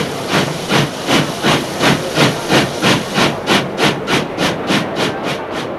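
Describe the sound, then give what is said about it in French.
An old steam train, running in place of the RER commuter train because of a strike, pulls in, its engine giving off loud, rhythmic bursts of hissing steam at a steady pace, with no voices. “Le train arrive. C'est un vieux train qui remplace le RER pour raison de grève.”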